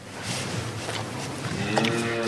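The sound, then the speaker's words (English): A cow in the camembert-making region of Normandy, northern France, licks right against a microphone, producing loud, wet rasping and rubbing bursts in an uneven rhythm, with a faint tonal hum creeping in toward the end. “The sound of a camembert cow licking a microphone.”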